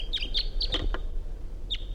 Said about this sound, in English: Wild Bird coming in. Wild bird, wild male.